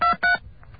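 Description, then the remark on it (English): Touch-tone telephone digits dialed in quick succession, four more digits entered after a second dial tone: two loud, clipped beeps close together, followed by a couple of much fainter tones fading into low background noise. “Now I'm going to dial four more digits.”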